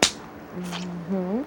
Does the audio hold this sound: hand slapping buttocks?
yes